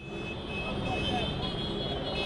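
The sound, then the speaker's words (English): Loud, dense London street traffic gridlocked by a taxi drivers' protest against Uber, with a steady rumble of engines and sustained, overlapping horn tones held throughout, and indistinct voices mixed into the din. “That sound from London. Taxi drivers caused traffic gridlock across Europe yesterday in a show of force against Uber.”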